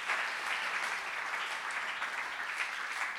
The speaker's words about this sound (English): It's a good place to clap.